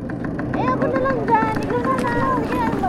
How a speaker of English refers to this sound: So we squeeze into the sidecar of a motorcycle pedicab.